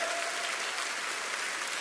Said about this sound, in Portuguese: Oh! Aplauda bem forte.